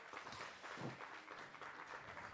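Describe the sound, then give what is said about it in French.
An audience claps for musical guests who are about to play a piece live, a dense crackling patter of many hands at an even volume that carries on for the whole stretch without any voices over it. “Mais vous pouvez quand même les applaudir, du coup.”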